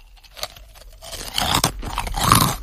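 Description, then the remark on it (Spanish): Loud crunching of crisp Trisquis snack rings being chewed, irregular bites and grinding that grow denser and louder toward the end, with no talking. “vale, espera, traga. Te vas a engullipar.”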